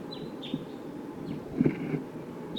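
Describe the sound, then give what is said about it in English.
Wild birds give a few thin, high-pitched whistled flight call notes, faint and scattered, over a steady rushing background with a couple of soft low thumps. “There are wild birds here. Calling less now.”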